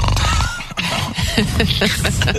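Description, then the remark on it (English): A father pretending to be asleep makes an exaggerated, raspy fake snore, a loud, continuous throaty rumble lasting a couple of seconds, with no words spoken. “The snore? You pretend to snore?”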